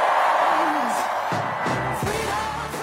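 A huge crowd cheers loudly and without a break as Kamala Harris comes to the stage: a dense roar of voices with scattered high whoops and yells rising out of it, holding steady at full volume throughout.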